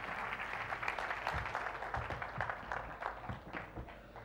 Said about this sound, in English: Thank you very much. When you give these people a round of applause.